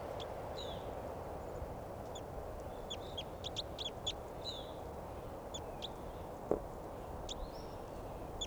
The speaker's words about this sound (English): Fighting calls there by both birds, 387 and the wild bird, wild adult female here.